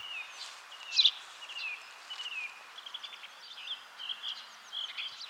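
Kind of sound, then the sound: bird, song thrush singing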